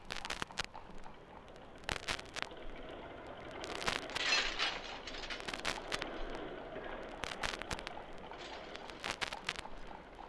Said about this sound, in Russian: Пустить подъемный мост!